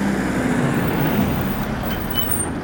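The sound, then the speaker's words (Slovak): The engine of a large van rumbles steadily, a deep continuous drone with road noise and a faint hiss, holding fairly constant as the van pulls in. “Ani to nedopovedali a zjavilo sa veľké auto. Dodávka.”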